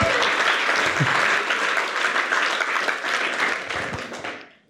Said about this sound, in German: Geben wir doch meinem guten Freund, unserem guten Freund, einen lieben Applaus ins Spital. Mega cool, dass du zuschaust, mega cool.